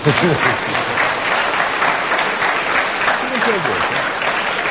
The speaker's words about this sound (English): I think we should give a round of applause to Derek Nimmo, because he kept going. Applause, yes.